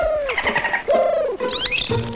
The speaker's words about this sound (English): Speaking of experimenting, is that … backstage trying to communicate with a bottlenose dolphin?